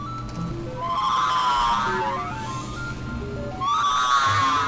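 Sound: person whistling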